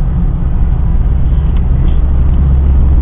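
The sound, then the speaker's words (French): Steady, loud low-pitched rumble of a diesel car engine heard from inside the car while driving, before taking the motorway; a continuous droning hum with road noise and no voices. “Je pense que ça va rester assez pénible à écouter parce que bah, y a le bruit de la voiture hein. Donc bah, j'ai un diesel et ça fait du bruit quoi.”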